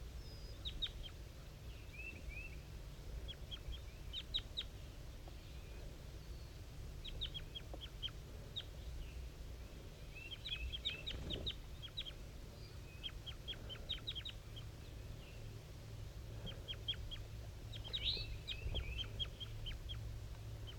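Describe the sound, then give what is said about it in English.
Soft, high-pitched calls at 7:50 a.m. from a wild bird at the top of a dead pine, communicating with another bird called 5-3. The calls come in short clustered bursts every few seconds, faint above a steady low rumble of background noise. No one speaks. “Wild bird calling.”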